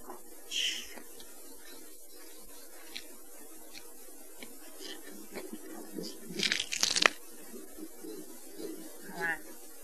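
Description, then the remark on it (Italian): Someone touches a kitchen window pane, with a few faint ticks followed by a brief, crunchy rubbing burst against the glass, set over a low, steady background murmur. “Ah, chi sta il vetro? La finestra della cucina, è vero. Avanti, il vetro si tocca.”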